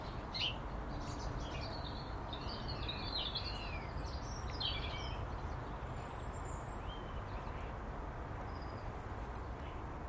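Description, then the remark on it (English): A blackbird sings in a spring morning dawn chorus, scattered melodic phrases and chirps drifting over a steady outdoor background hiss, fairly faint throughout. “But on that one, the blackbird was in his glory.”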